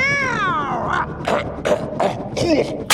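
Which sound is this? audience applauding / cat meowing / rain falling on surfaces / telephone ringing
cat meowing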